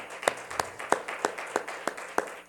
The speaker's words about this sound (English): the Lord a hand clap of praise.